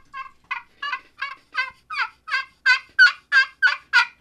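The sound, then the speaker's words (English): A turkey call played on the slate side of a double-sided Easy Talker friction call: about a dozen evenly spaced raspy yelps in a steady rhythm, growing louder toward the end, with no talking over them. “And that's, you know, slate to me is slate. One of the realistic, it sounds just like them. Very easy to use.”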